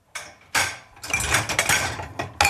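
Glasses and cups clink and clatter as a dishwasher is loaded, glasses going to the right and cups to the left, in a quick, irregular series of bright knocks and rattles, with short ringing tones and a busy cluster of clatter in the middle, without any talking.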